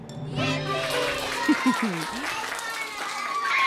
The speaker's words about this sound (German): Jubel im Auto von euch.